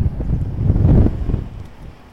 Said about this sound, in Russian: Сильный ветер. Надеюсь, не будет проблем со звуком.